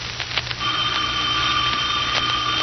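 A telephone rings with a steady, high-pitched trilling tone that starts after a brief clatter and holds evenly to the end, over a low background hum.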